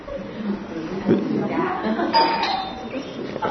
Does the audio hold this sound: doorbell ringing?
yes